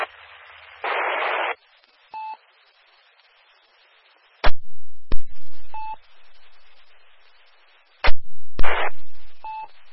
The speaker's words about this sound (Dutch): En dan die DTMF.